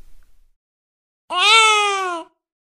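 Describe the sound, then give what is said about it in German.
A single cry of a German newborn baby, about one second long, clear after a brief silence, its pitch rising slightly at the start and then gliding downward in a falling melody contour before stopping abruptly. “Deutsche Babys bevorzugen eine fallende Melodiekontur.”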